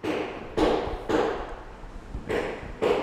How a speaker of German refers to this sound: Aus der offenen Tür eines leeren Ladenlokals in der Brunnenstraße in Bad Schwalbach dringt Baulärm.